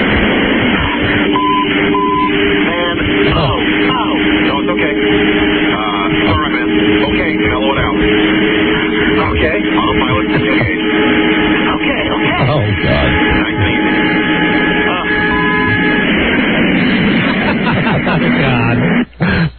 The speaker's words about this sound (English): This is like the sound of a plane crashing or something.